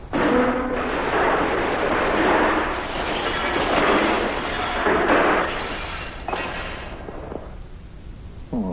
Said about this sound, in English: You've knocked over my bowl of soup, and you've spilled it all over me and the bed, and you broke the bed to boot.